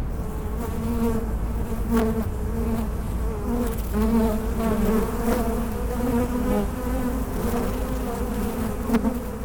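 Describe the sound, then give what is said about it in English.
A dense, continuous drone of many honeybees buzzing inside a hive crawling with bees, one of six beehives on the roof of National Geographic headquarters, picked up by a recorder set down into the hive, with overlapping wingbeat hums wavering in pitch and no voices present. “I have a recorder here, and I'm going to set it down into a hive that is crawling with bees.”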